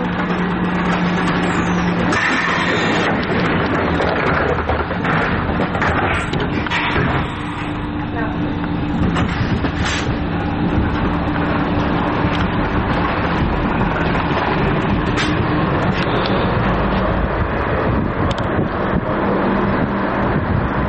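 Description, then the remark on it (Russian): A loud, steady rumble of a moving electric commuter train on a morning ride, with rattling and whooshing noise and indistinct voices murmuring underneath. “По утрам мы вместе садимся на электричку, а от станции до школы они идут сами.”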